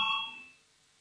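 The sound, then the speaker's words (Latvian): A parliamentary voting bell gives a single bright ring, calling a vote on proposal number 98, a committee proposal, then quickly fades away, heard on its own with no talking. “Lūdzu zvanu balsosim par 98.”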